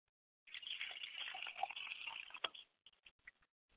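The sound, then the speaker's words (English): Water is poured onto the ground as a libation in a purification ritual, a hissing splash for about two seconds, then trickles off into a few scattered drips and splatters. “And now that the water is poured on the ground where I'm standing at, I'm standing on holy ground.”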